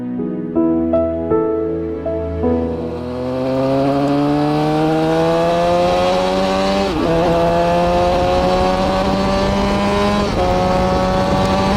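A racing motorcycle engine roars loud, its pitch climbing steadily as it accelerates, with brief dips at a couple of gear changes. No one speaks.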